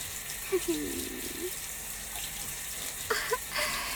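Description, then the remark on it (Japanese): A steady, even hiss of shower water spraying as someone is rinsed off, with a few soft, brief vocal sounds rising over it near the start and again toward the end. “行ったばっかりで敏感なおちんぽにシャワー当てるのくすぐったいかもしれませんけど、我慢しててくださいね。”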